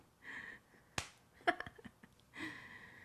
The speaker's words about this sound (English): I feel your hand on me. You slap me a little.